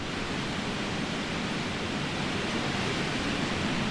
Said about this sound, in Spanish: Así suena, en rigurísimo directo, el río Urubamba, uno de los principales afluentes del Amazonas.